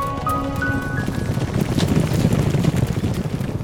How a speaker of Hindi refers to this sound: तो फिर क्या था, हाथी, गीदड़, हिरन, चीता, लोमड़ी, भेड़िया, भालू और सभी जंगल के जानवर अपनी अपनी जान बचाने के लिए जंगल से भागने लगे।